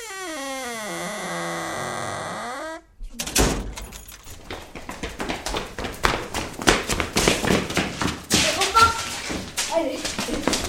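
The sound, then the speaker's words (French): A door shuts with a solid thud right after a gliding, descending tone cuts off, followed by a dense, busy stretch of crackling and rustling noise. “Oui, et fermons bien la porte.”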